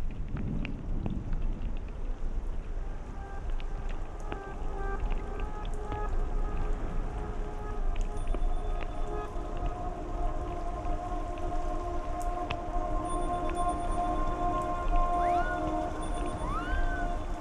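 Steady rain patters on a surface without pause, a dense, even hiss that fills the whole stretch, with faint sustained tones drifting in the background and no voices.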